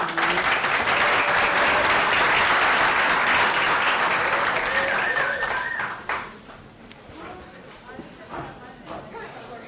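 An audience applauds a presenter about to begin his talk, with dense, steady clapping for about six seconds, then the clapping thins out into a few scattered claps and faint rustling.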